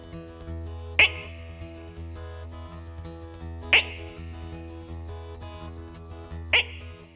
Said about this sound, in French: Il y en a d'autres qui font... Les plus grosses. Et même de temps à autre, on entend certaines grenouilles qui font...